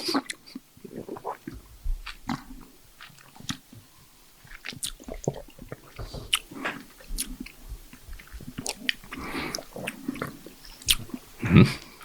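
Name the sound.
people smacking lips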